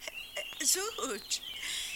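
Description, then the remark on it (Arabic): Birds call with a steady stream of high, thin chirps and twittering, while a person speaks briefly underneath. “ما أجمل هذا الطيور.”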